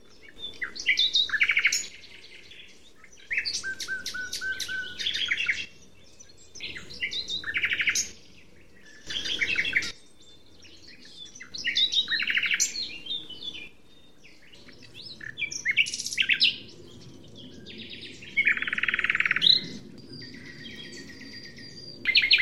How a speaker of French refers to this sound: Ah, j'espère pour vous que vous habitez pas trop loin d'un bosquet et que vous pouvez, une fois la nuit noire bien tombée, sortir ou ouvrir votre fenêtre et apprécier le chant du rossignol, le jeune chant qui fait résonner tout le fond de nos bois.